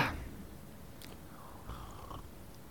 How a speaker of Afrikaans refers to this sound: ekskuus ek net gou 'n sluk van my tee vat.